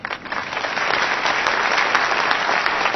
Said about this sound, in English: Hey, everybody, enjoying the evening. Let's give a nice round of applause for ….